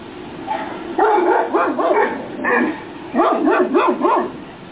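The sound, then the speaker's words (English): A dog barks in two quick runs of high, yelping barks with a whiny, rising-and-falling tone, moderately loud, with a short pause between runs and no talking. “That's not my dog.”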